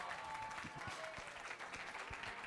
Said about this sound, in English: The reason why you are clapping for him is that you, whilst you are hiding your own, he is bold.